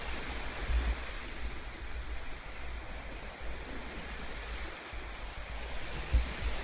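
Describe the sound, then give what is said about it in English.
Steady ocean surf washes and breaks on the shore, a broad continuous roar with gentle swells and a few stronger surges, heard alone without any voices. “With the ocean as our teacher, I believe I hear her calling us to class.”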